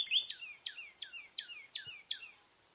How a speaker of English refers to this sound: Instead of 30 birds counted from 9 species, only 2 species of birds were counted that day, 2 common nighthawks and 1 northern cardinal.